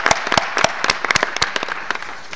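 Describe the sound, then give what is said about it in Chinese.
An audience at a pledging conference breaks into steady applause to thank the pledged amounts, many hands clapping in a dense, crackling patter that stays fairly even and moderately loud throughout, with no one speaking over it. “请大家注意一下，这并不包括我们私营行业的合作伙伴，而且今天发言已经承诺了4.1亿美元，这里的金额也值得我们鼓掌感谢。”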